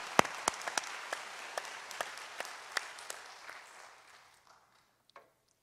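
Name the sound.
audience applauding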